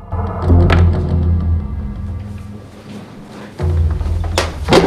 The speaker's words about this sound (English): Clint creeps down the cellar stairs. He tries to pick up a bullet, but knocks it down the stairs.